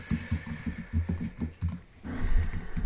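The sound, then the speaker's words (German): Rapid clicking of keys on a computer keyboard in irregular bursts, pausing briefly before a final flurry of taps; no one speaks. “Kaum tippt man es richtig, ist man auch schon drin. Und ich muss mich ja auch noch wieder einloggen.”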